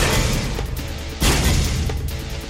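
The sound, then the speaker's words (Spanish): Loud gunshot sound effects, newly added to the intro of the radio section 'Viajeros asesinos' with Chema Rodríguez, crack over a dense, rumbling musical bed, with one especially heavy blast about halfway through and sharper pops scattered around it. No one speaks. “Los disparos son nuevos, ¿no?”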